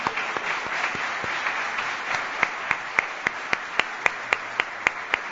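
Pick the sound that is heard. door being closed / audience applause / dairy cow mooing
audience applause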